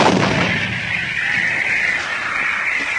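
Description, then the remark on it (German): Cannon fire booms loudly and continuously, a heavy rolling roar of blasts and rumble filling the whole stretch with no pause and no voices, as fuses are lit and cannons are fired at castle battlements. “Entzündet die Lunte, Leute! Zielt auf die Zinnen!”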